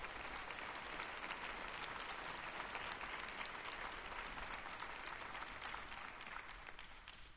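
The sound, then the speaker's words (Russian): An audience applauds Kenneth and Gloria Copeland steadily, a dense wash of many hands clapping at an even level before tapering slightly at the end, with no voices heard. “Давайте подарим им большие аплодисменты.”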